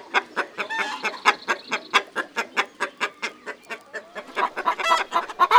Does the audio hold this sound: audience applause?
no